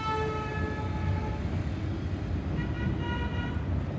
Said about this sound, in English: A bus station in Tegucigalpa, the capital of Honduras.